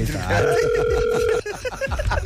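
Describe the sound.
A steady two-pitch telephone dial tone hums for about a second, fairly loud and close, with people talking over it and continuing to chatter after it cuts off.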